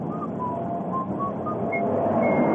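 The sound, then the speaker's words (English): Someone whistles aimlessly while propping a ladder against the outer wall of a building, in short, wandering notes that jump between pitches without forming a tune, over a steady background rumble like traffic. “whistling tunelessly, propped his ladder against the outer wall of the building.”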